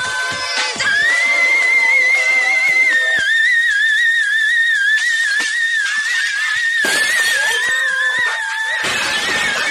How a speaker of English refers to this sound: Songs and over 20,000 hertz of screaming melodies.